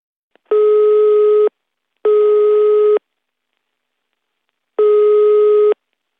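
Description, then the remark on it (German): A telephone in a living room, after a number is dialed, gives a ringing tone three times as steady, buzzy electronic beeps about a second each, with uneven pauses between them, clear, with no one talking. “nimmt das Telefon und wählt eine Nummer.”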